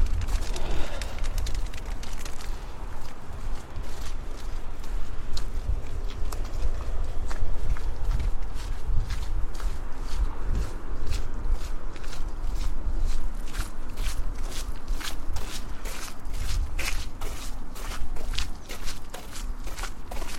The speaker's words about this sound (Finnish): Mä oon nyt kävelemässä ihan rauhallisella tämmöisellä kadulla eteenpäin.